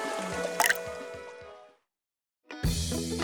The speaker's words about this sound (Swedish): Riktigt vatten, rakt ur din kran. Genom att lyfta eller vrida på just din kran kan du omedelbart få resultat av vatten.